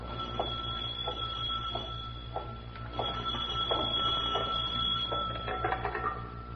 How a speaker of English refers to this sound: Suddenly, a phone rings on the desk of the night watchman, rings and shatters the silence of this modern tomb of ancient art.